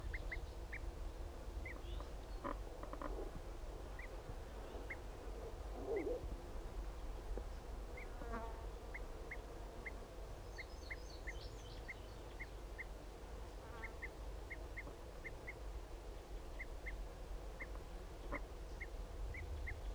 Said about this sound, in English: Start recording those males are back. Start recording those both of those males giving flight calls.